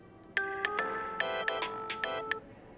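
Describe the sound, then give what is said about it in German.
A telephone rings with a bright electronic melody, a quick run of short chiming notes repeating in a steady pattern, clear with no voices, on an outgoing call to a friend for help with a quiz question. “Ich rufe den Nochi an, der weiß das sicher. Gut, verwenden wir den Telefonjoker.”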